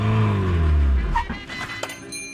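A car packed with toys drives across Denmark, its engine droning steadily with a low hum shifting pitch as it passes, followed by lighter road noise and a few brief higher whines.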